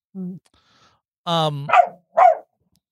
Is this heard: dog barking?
yes